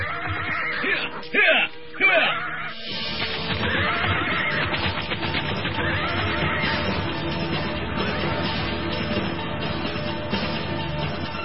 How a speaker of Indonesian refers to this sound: Sementara itu di tempat lain, di padang pasir yang lain, Mus'ab tampak sedang memacu kudanya dengan kencang menuju ke rumahnya.